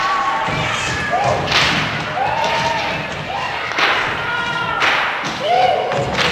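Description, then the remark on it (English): Several sharp whip cracks ring out at irregular intervals, mixed with wailing vocal cries and screams, all fairly loud, with a dense, busy background throughout; a sound-effects CD track meant to depict an orgy with whips and screams. “Let's try orgy with whips and screams. We'll see just how good this stupid CD is.”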